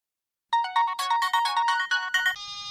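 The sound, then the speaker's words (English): A bright electronic phone ringtone plays a quick melodic sequence of chiming tones, loud, ending on a sustained note as a faint low rustle begins underneath. “Phone call 1.”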